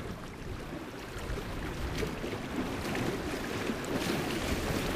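Water laps steadily against the shore of Folsom Reservoir near Sacramento, a continuous wash of soft splashes and churning low rumble with no clear pauses, small waves at the water's edge. No voices are heard.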